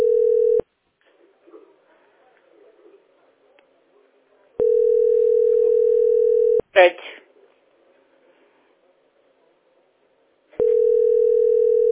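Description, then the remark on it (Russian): A telephone ringback tone: a steady mid-pitched hum in long two-second bursts separated by roughly four-second pauses, repeating with no answer. Faint murmuring voices and a brief clatter fill the gaps. “Вот я звоню. Они могут, они трубку могут не брать.”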